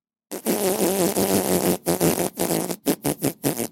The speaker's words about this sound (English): What did you do? What was that? That was me farting. I tried to fart so hard that he would come back to life because it would be funny. But I just farted.